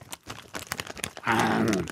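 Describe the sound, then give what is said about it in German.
Crisp crunching of someone chewing biscuits, with irregular crackly bites for about a second, followed by a sustained voiced hum or groan through a full mouth. “Man muss was kauen als Kautenor. Und dann geht es schon allein. Her mit den Keksen.”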